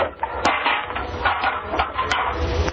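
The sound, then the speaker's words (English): Someone stumbles in the dark into a rain barrel and a metal pail, setting off a loud run of clanging bangs and tinny rattles that clatter on for a few seconds without any voices. “That rain barrel with the pail right in front of you.”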